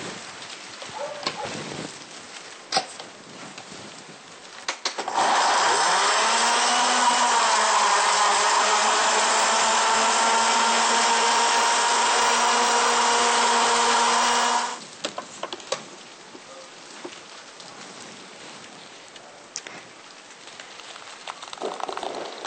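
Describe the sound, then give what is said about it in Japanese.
A blender roars loudly and steadily for about ten seconds as it blends well-washed grapes, its pitch dipping slightly as it churns, framed by quieter clattering and handling sounds before and after. “それではまずよく洗ったブドウをミキサーにかけます。”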